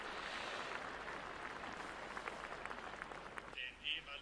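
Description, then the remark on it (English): Audience applause at a Siemens company meeting for former company leaders, management and members of the founding Siemens family: a dense, steady patter of many hands clapping for several seconds, then it thins out as a brief higher-pitched sound cuts through near the end. “Well, I think they deserve an applause.”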